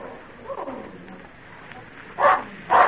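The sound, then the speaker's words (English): A dog named Badger barks twice in quick succession near the end, loud, barking at a stranger, after a stretch of quiet, low background murmur. “I've not heard badger bark like that before.”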